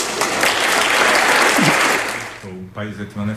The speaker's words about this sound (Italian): E applausi scroscianti appunto al discorso di Draghi.